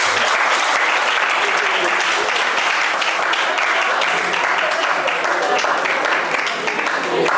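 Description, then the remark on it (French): Loud, steady audience applause fills the whole stretch, a dense crackle of many hands clapping at once with no pause or fade, applauding a priest for having come. “Et puis, on va d'abord applaudir très fort pour le père soit venu.”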